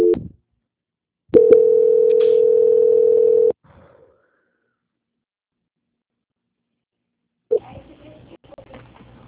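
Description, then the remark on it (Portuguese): A steady, loud single-pitch telephone tone sounds for about two seconds after a brief blip during a call transfer, then the line goes silent before faint line noise and a voice return. “A ligação vai ficar muda por alguns instantes, mas eu peço que o senhor não desligue o telefone, tá bom?”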